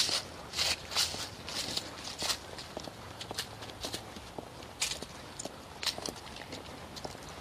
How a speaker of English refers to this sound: Very definite fall leaf crunch and scent in the air.